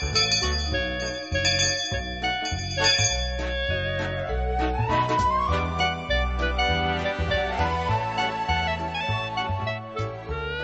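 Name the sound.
class bell ringing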